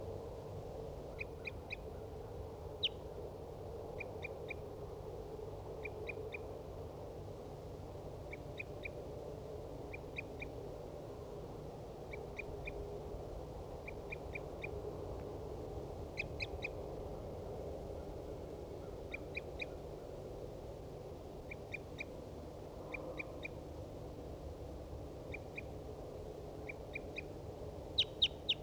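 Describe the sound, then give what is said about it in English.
A wild bird calls over and over in short, high-pitched paired chirps at a steady rhythm, fairly faint above a constant low rumble of background noise. “Wild bird.”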